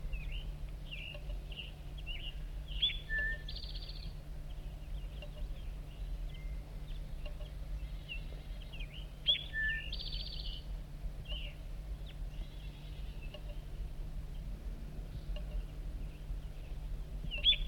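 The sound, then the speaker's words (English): Short, high-pitched bird chirps and calls from a pair of birds, a male up in an oak, repeat irregularly throughout, fairly faint, over a steady low hum with no one talking. “One of the birds, both birds are going down.”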